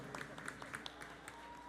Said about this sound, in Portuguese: Antes de mais nada, vamos pedir palmas para Jah e palmas para Jesus Cristo. Por favor.